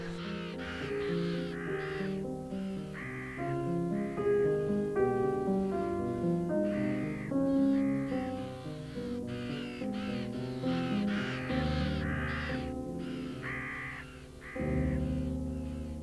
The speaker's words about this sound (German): Das stimmt, Rabenkrähen sind ziemlich laut und ich weiß gar nicht, ob ich das schön oder etwas gruselig finden soll. Also ich entscheide mich fürs Unheimliche.